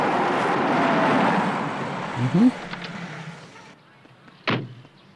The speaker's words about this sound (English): Help! Where am I? What door am I pounding on right now? Help!